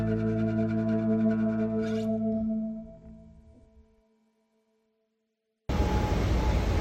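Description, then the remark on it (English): Strong wind whistles outdoors in a steady, layered drone of pitched tones that slowly fades out. A brief silence follows, then loud, rough rushing wind noise abruptly cuts in. “It is so windy out there, it is ridiculous. You can hear the whistling.”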